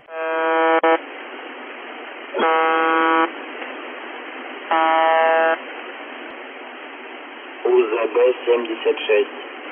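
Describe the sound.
Three harsh, horn-like buzzing tones, like a slightly altered truck horn, each about a second long and evenly spaced, sound through hissing shortwave radio static; near the end a Russian radio voice begins speaking.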